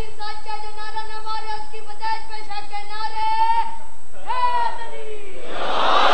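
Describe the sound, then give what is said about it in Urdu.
A boy shouts a long, high-pitched chanted religious slogan, a drawn-out call followed by a shorter second cry, and then a burst of voices from a crowd responds. “ویسے ماشاء اللہ یہ اچھی بات ہے، بیٹے نے ہمت کی، بچے نے ہمت کی، اس نے نعرہ لگایا.”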